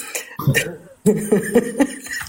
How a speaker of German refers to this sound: Ich musste erst mal kurz husten.